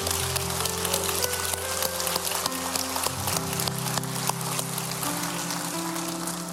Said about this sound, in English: Amen. Come on, let's just give the Lord a hand clap of praise for those. Yeah.